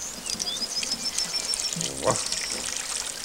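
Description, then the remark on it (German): Water from a watering can pours and splashes steadily over a hut, a dense hiss like heavy rain pelting down, with faint bird chirps high above it and a brief louder splash near the end. “Was ist denn das für ein fürchterlicher Platterregen?”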